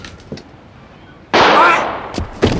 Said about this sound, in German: Guter Schuss, was? Enrique! Er hat Evans den Revolver aus der Hand geschossen.